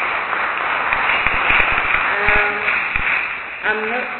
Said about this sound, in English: Can we give her a round of applause again?